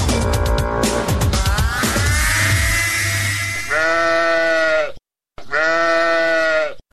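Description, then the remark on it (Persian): A sheep bought for an Eid sacrifice bleats loudly, two long wavering cries separated by a brief pause, preceded by a few seconds of noisy, cluttered sound. “بچه بر گوسفند یک کمی برگ پرتو که گشنه نمانه”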